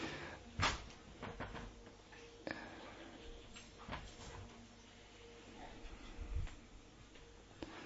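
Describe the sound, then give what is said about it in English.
A door being closed: a few soft clunks and knocks spread over several seconds, with a sharper thud near the start, against quiet with a faint background murmur. “Someone will have to close yeah, that also that door, that no sound is there.”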